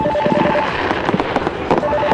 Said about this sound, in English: The rockets continue. A spectacular fireworks show.